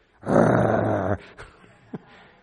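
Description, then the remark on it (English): A person imitates the snarling growl of a dog approached while eating, one loud, rough, sustained burst just under a second long, followed by a few faint short sounds. “You ever approach a dog when he's eating? This is the idea.”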